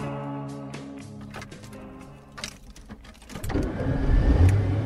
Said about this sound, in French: Alors aujourd'hui, je vous emmène avec moi sur le Causse. On part en voiture là chez Richard.